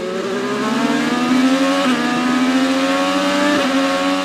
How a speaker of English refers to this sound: And that is the sound you'll be hearing this weekend at the Detroit Grand Prix, the race car screaming around the track on Belle Isle.